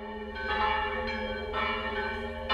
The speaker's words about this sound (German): Dass die 3 Glocken zusammen recht merkwürdig klangen, weil nämlich die beiden Großen fast denselben Ton hatten, fiel den jungen Messdienern und den Rheinkasselern nicht weiter auf.